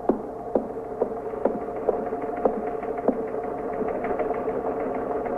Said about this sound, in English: You want to see what that is on the teletype? Okay.